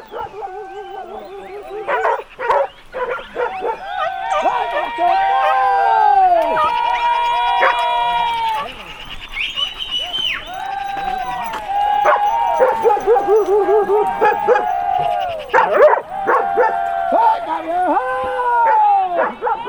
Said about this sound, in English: The pack of dogs chases the wild boar at full speed. The dog wardens behind them, doesn't stop at any time to encourage them to keep the pursuit pace.